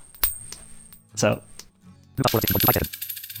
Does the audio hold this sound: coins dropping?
yes